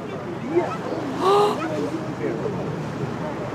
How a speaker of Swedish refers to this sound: Men sen, omisskännligt. Långt bort ett jätteplask. Alltså, tänk er att en ponny eller något skulle göra ett plask. Oj, nu plaskar det där borta. Och där var en. Oj, vilka plask.